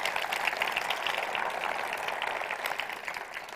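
A church audience applauds in honor of Jesus, a dense wash of many hands clapping at once that holds an even, moderately loud level throughout without pausing or building.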